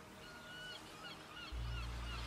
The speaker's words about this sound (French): Tiens, tu entends ce bruit? C'est une superbe mouette, ce magnifique oiseau blanc aux grandes ailes qui vit près de la mer.